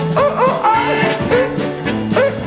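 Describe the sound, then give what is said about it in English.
Several dogs bark and yelp in quick, overlapping bursts, loud, with a few rising, howl-like cries mixed in and no pauses between them. “I got some good dogs. You hear?”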